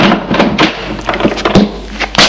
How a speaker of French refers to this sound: La porte du cabinet s'est ouverte.